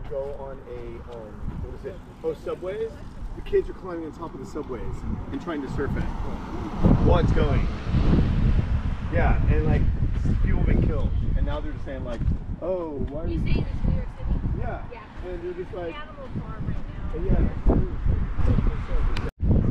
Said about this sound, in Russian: Когда ветер очень сильным становится, я отключаюсь, потому что совсем не в моготу.